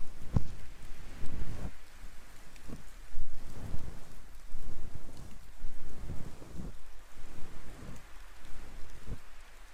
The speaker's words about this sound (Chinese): 天气预报也不怎么靠谱，所以啊，身上要是没带伞，就麻烦了。没事的，反正下雨嘛。